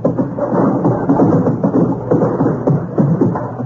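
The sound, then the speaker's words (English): Horse hooves galloping in a steady, rolling rhythm, heavy and rumbling with a dense low thud throughout, loud and continuous with no voices; a horse going out fox hunting. “Hear the noise of galloping over the”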